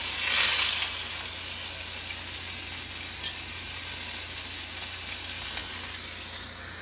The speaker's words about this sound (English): But anyway, okay, so this is the first patty going into the pan. Oh my god.